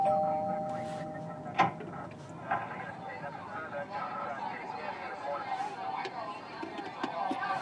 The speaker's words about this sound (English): What's that? Ugh. Did I hear the doorbell ringing?